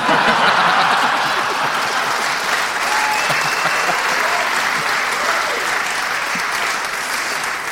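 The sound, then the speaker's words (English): Steady audience applause on The Bugle for someone having eaten a shawarma kebab, a dense, even patter of many hands clapping at full strength throughout, with faint chuckles mixed in. “Well, I think that's the first time in Bugle history that someone has been applauded for eating a shawarma kebab.”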